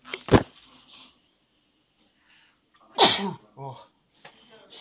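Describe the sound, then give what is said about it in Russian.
Two loud sneezes separated by a few seconds of near silence, each a sharp burst of breathy noise, the second followed by a brief vocal trail, from a person during a business phone call. “прошу прощения, что-то чих внезапно напал.”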